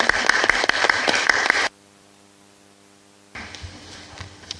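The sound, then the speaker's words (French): Loud, dense audience applause at a meeting, with many overlapping claps for the three vice-presidents, breaks off abruptly into a low steady electrical hum, then a softer wash of clapping returns. “Je vous propose de les applaudir tous.”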